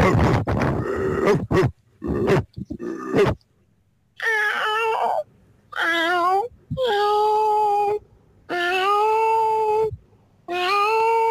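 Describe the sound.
A radio listener on a mobile phone imitates a dog barking with a quick run of short, rough, loud barks, then switches to cat meows: four long, whining, pitch-bending meows separated by brief pauses.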